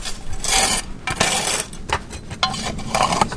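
Coal being scraped into a metal forge: a series of loud, gritty rasping strokes in uneven bursts, mixed with light metallic clinks and rattles, with no voices.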